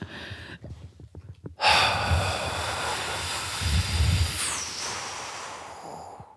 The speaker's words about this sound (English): So breathe out. Breathe out, and then as you're reaching the end of your breath, squeeze your throat.